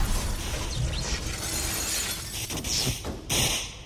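A loud, chaotic crash of a truck slamming into stacked iron inside a steel mill building and spinning, with dense grinding clatter and sharp clangs and shattering bursts near the end, forceful.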